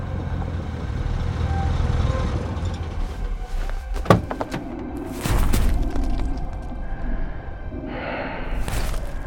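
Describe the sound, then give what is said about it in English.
An Explorer vehicle drives steadily along an icy road down into Valhalla crater with a deep, continuous rumble, broken by a sharp knock midway and bursts of gritty, crunching noise from the road surface. “We follow the icy road down Valhalla.”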